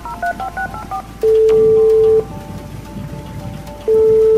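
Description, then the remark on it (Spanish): A rapid run of short telephone keypad beeps as a tow truck is called about a broken-down car, followed by long, steady ringback tones, with a constant hiss of storm rain underneath throughout. “Se apartó de la carretera y llamó a la grúa para avisar de su avería.”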